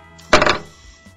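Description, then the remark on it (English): A robot struggling to pick up an object drops it with a sudden clatter: a quick cluster of sharp knocks that fades within a fraction of a second, over a steady, low mechanical hum. No one speaks. “That's the sound of a robot struggling to pick up an object and actually dropping it.”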